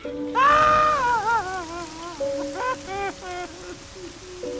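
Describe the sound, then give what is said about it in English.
Steady rain hisses throughout, partly masked by loud, wavering tonal sounds like mournful wailing that rise and fall over it. “He starts to rain.”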